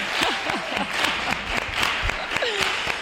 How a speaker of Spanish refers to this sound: Vamos a darle un aplauso. Flamenco, ¿no? Sí, claro. Un aplauso flamenco. A ver cómo, vale. Bueno, a ver cómo es esto. ¡Ole!